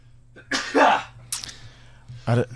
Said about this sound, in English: Let me share my sneeze with you first thing on a Monday.